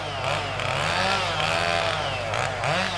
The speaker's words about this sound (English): And Tommy revs up his chainsaw, which means one thing: that tree is coming down.